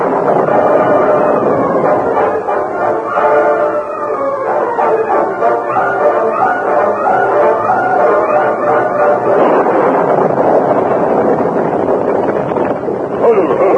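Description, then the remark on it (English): A loud, steady storm breaking over the banks of a river: howling wind with a rushing hiss of driving rain, its whistling tones rising and falling in pitch without a break for about fourteen seconds. “The Lone Ranger and Tonto, who had been searching for Butch Carson's camp, found a cave on the banks of the river just as the storm broke. They were about to take shelter from the rain”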